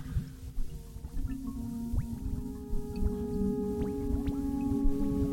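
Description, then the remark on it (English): Atonal synthesizer tones, tried out for a yoga performance, plink and blip like water drops over a steady droning hum. The short, scattered notes overlap the sustained tones, moderately loud and without any voices. “Kind of sounds like a water drum, if that makes any sense.”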